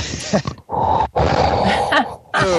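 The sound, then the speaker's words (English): Loud, exaggerated heavy labored breathing: a few long, rasping, groan-like huffs with short pauses between them, with no talking. “there will be …'s heavy breathing. Right. Yes. Labored breathing.”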